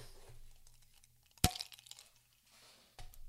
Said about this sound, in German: Und zum Dank brachten sie die Humpen, die die Kellnerin gerade reichte, vor ihre Körper und hielten zum Anstoßen an.